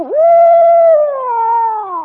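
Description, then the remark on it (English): A person mimics the call an owl makes when it wants to scare you: one loud, sustained wavering hoot that starts high and slowly slides lower over about two seconds, alone with no talking. “Then sometimes when he wants to scare you, well, then he'll go like this.”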